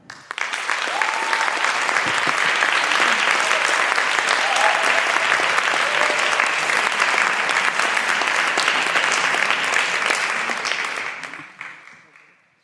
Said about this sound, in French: Applaudissez